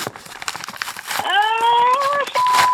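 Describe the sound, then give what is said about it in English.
Crinkly paper rustling as a big manila folder from the CIA is opened, a quick burst of dry crackles, followed by a steady, high whistling tone that carries on to the end. “I just got this big manila folder from the CIA.”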